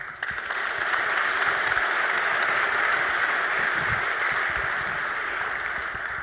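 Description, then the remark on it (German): Audience applause welcoming a speaker to a talk on open sensor data: steady, dense clapping from many hands that holds at an even loudness for about six seconds, with no voices over it. “Begrüßt also deshalb mit einem ganz warmen Applaus”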